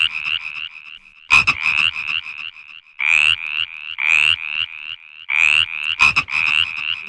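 Frogs croak loudly in a busy, overlapping chorus of rapid, rattling calls that come in pulsing bursts, with a couple of sharp clicks. No one speaks.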